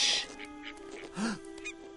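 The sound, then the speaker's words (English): A single short, nasal honk from a goose rises and falls midway through, over a faint steady hum and soft background rustling, with no voices. “The golden goose. Just look at her.”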